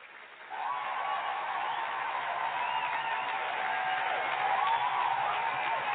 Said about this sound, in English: Let me give you a round of applause so they can hear that. Let me do that right quick.